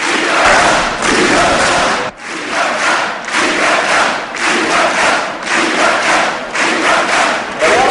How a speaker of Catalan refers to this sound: Crits de llibertat també des de part del públic, realment la plaça ha estat un clam. I aquests crits fan que freni precisament l'inici del seu discurs ….